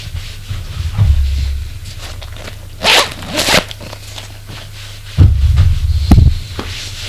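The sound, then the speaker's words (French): Rustling and brushing of clothing with a quick zip-like rasp midway, mixed with a few soft thumps, as a man hurriedly undresses in his bedroom to take a shower. No one speaks. “Vite, il se déshabille.”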